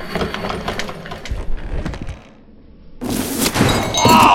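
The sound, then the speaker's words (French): A wooden chair creaks and splinters with a run of sharp cracks and dull thuds, then a short pause before a loud, noisy crash as it gives way under the weight of someone wearing armour. “Tu le sais que les chaises sont pas conçues pour supporter le poids de vos armures.”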